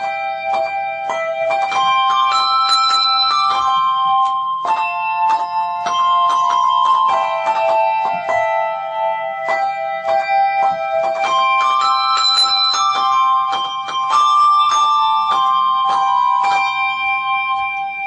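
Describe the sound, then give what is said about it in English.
Handbells ring out in a steady, overlapping melody, many bright tuned tones struck in quick succession and left to sustain, fairly loud throughout with no voices. “If interested further in handbell ringing, you can contact the charity Handbell Ringers of Great Britain”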